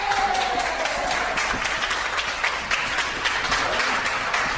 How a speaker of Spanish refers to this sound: El sonido de la semana pasada, el aplauso con el que le recibieron tras la cumbre europea.